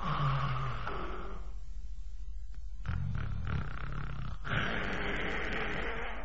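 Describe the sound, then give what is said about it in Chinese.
A voice, telling a story in Chinese, imitates the loud, rasping snoring of the character Li Kui: a long, rough, growling snore, a brief lull, then several more guttural, snorting snores in uneven bursts. “不知道啊，就那黑不溜秋黄头发那大个子，这呼噜谁受得了啊？”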